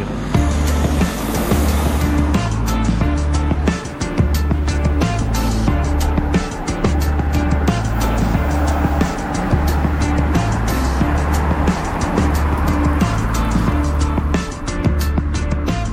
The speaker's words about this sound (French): Alors on a pris la voiture, on a fait une heure et demie de route au nord-est de Stuttgart, on est dans la région de Schwäbisch Hall